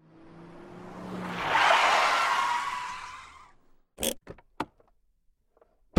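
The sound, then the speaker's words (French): A car skids with a rising, rushing tire squeal that swells and fades over a few seconds, followed by several sharp knocks, as the driver nearly loses control of the car along the Bourge river in Ardèche. No one speaks. “Muriel a failli en perdre le contrôle de sa bagnole en passant le long de la Bourge”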